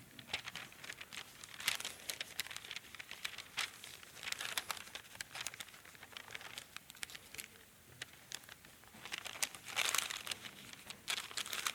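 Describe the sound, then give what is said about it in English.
Continuous paper handling: repeated crinkling and crisp rustles with sharper creasing bursts scattered throughout, as a sheet of paper is folded and pressed into a paper airplane, with no voices. “you remember, like making an airplane?”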